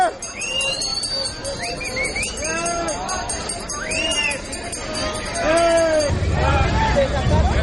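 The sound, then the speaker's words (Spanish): A dense rally crowd in the Zócalo at Sheinbaum's first Grito roars steadily. Many voices shout Spartan cries in rising, drawn-out calls over the din, asking to enter by 20 de Noviembre street toward the Palacio Nacional. The noise swells louder in the final seconds. “que por momentos hasta con grito de espartanos pedían entrar por la calle 20 de noviembre y otros accesos para ocupar un lugar lo más cercano al Palacio Nacional.”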